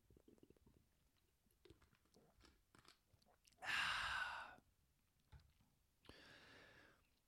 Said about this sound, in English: Aw, but let me take a sip of water.